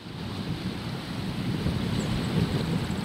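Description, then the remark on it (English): Steady wind buffets the microphone on a tall dune near Vega Baja on Puerto Rico's north coast, over a low, continuous roar of ocean surf, a broad rumbling wash that swells slightly louder midway with no voices present. “I'm standing on a tall dune near Vega Baja in Puerto Rico's north coast. The ocean stretches out in shades of dark blue, turquoise, and pale aquamarine.”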